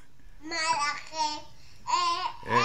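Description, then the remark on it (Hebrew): A small child, a little brother, babbles in a few short bursts of high, sing-song syllables, fairly loud, with brief pauses between them and no other talk, interrupting a girl singing a Shabbat song. “הנה עוד פעם הילד מפריע, האח הקטן מפריע”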